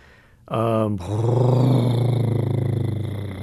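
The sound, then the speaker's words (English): A deep, sustained elephant rumble, a very low-frequency vocalization, starts after a brief quiet moment and continues steadily for about three seconds, loud, with a low throbbing, growl-like texture and no talking. “By far, the most frequent kind of vocalization we call a rumble, which is very low frequency.”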